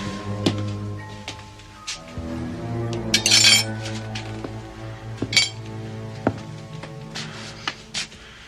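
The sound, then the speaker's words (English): Metal silverware clinks and rattles as it is rummaged through while someone searches for a dropped fork, with irregular light taps and a brief, louder jangling burst partway through. No voices. “You know the punishment for losing silverware?”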